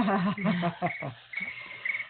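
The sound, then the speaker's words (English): Cricket chirping in short, evenly spaced bursts, about two per second, running under a person talking, with the chirps coming through most clearly once the voice drops away. “You hear that cricket sound?”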